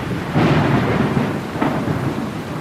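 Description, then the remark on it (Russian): Thunder rumbles loudly through a storm, a sustained low roar with a second surge partway through, over a steady hiss of rain. No voices. “Молнии прорезали небо одна за другой. Постоянно гремело и рокотало.”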